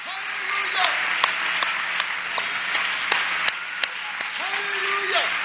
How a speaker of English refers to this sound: These hands that would clap for rock stars, sports stars, amen, movie stars. Now we clap them. Let's do it. For the King of Kings and the Lord of Lords.